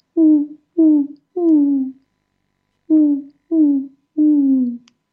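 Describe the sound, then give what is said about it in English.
A person imitates an owl with two sets of three soft, low hoots, each set rising in length, separated by a short pause; clear with no other sounds. “So you can often work with animal sounds to bring in different energies. So you might do the owl.”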